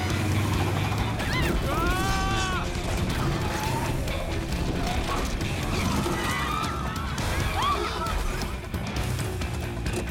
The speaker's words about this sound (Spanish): Lo llamamos el vehículo recreativo de asalto de lujo. El coche hace ron, ron. ¡Pisada a fondo!